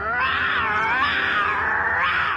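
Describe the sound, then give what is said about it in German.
A voice actor who is an expert in vocal special effects imitates a lion's roar: one loud, sustained, raspy growl lasting a couple of seconds, rising and falling in pitch with no talking around it. “Als Experte für stimmliche Spezialeffekte hat er unter anderem die Löwengeräusche für Mufasa und Simba in König der Löwen erzeugt.”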